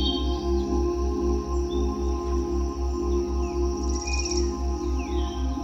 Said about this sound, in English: Listen to the birds as they sing for you. Hear the crickets as they welcome you home.